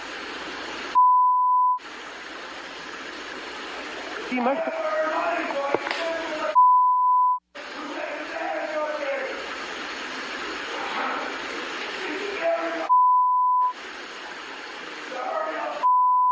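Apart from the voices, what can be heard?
repeated electronic beeps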